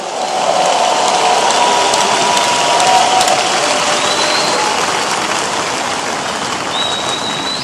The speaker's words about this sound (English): Give the Lord a big hand of praise and stand to your feet. Please stand to your feet this morning. Glory to God. Give the Lord another round of applause, everyone.